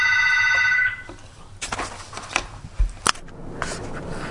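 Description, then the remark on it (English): A telephone rings once in a bright, buzzing burst lasting under a second, followed by a few sharp clicks and clattering handling noises. No one speaks. “Before the phone rang, I was just asking you about Kensington Market, if your family used it.”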